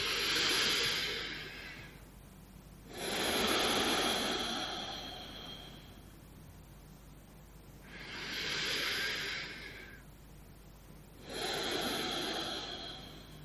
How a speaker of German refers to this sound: So, du nimmst ein paar schöne, wunderbare Atemzüge.